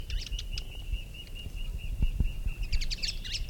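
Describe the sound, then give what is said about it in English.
A bird sings in bright, rapid chirps and trills, with bursts of chatter at the start and end over a steady high tone and low background rumble. “Six, shatters and song.”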